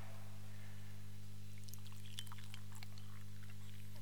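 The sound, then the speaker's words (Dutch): Warm water is poured into a thermos flask: faint, irregular trickling and splashing begins after a moment and continues. A steady low electrical hum runs underneath, and no one speaks. “Maar je moet eens gaan kijken wat er gebeurt als je deze gaat vullen met warm water.”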